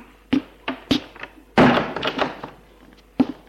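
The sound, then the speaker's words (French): A door is shut: two short knocks and clicks of the handle, then a loud thud with a brief rattle as it settles, and a final sharp click of the latch. No one speaks. “Fermer la porte.”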